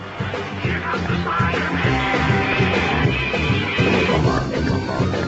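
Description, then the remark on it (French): A remixed vintage theme tune plays loud and continuous, with a steady pulsing bass line under dense, bright layered melody and no one talking over it. “Ouais, je voulais vraiment qu'on écoute le générique. Ils l'ont remixé. Écoutez, c'est fabuleux.”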